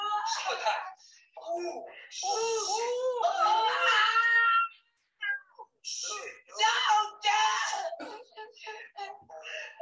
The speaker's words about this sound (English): I love her reaction when she sees the iron. Yeah. She suddenly starts screaming even louder.